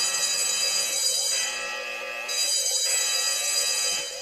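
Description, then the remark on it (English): An alarm bell rings continuously for the whole stretch, a loud, bright metallic clangor with dense shimmering overtones and a faint rhythmic pulsing. No voices are heard. “And here we go. Alarm.”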